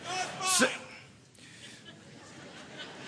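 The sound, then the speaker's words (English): A single sharp sneeze from a man in the audience, fairly quiet and brief, followed by faint background noise. “God bless you, sir.”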